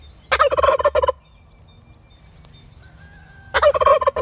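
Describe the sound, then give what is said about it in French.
Two loud bursts of turkey gobbling, rapid rattling calls from a flock of turkey hens and males living in an orchard with trees and meadow, separated by a quieter stretch with faint bird chirps and a low outdoor rumble. “c'est mettre plusieurs dindes avec plusieurs dindons, mâles, mais pas trop en surnombre”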